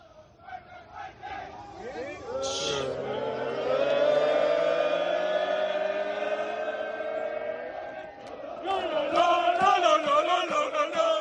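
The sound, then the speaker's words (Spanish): A stadium crowd chants from the stands at the end of a match, with the players below on the pitch, many voices swelling into a loud, sustained unison cry that rises in pitch, then breaking into choppier rhythmic shouts toward the end. “Esto es la grada con los jugadores abajo en el césped.”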